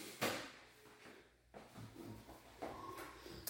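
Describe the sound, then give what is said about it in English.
A small sliding door in a house's mudroom, leading to a tool room, rolls along its track with a few scraping, rumbling strokes and soft knocks. It is fairly quiet, and no one is talking. “Little sliding door here that goes to a tool room.”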